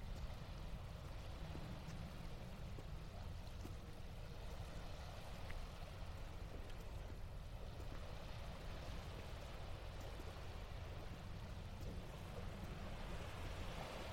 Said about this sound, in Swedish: Och vågorna bryr sig inte. Ibland så brukar jag ju tänka på att det här måste vara det äldsta kontinuerliga ljudet i universum. Nej, i alla fall, nej, inte universum, men jordens äldsta kontinuerliga ljud.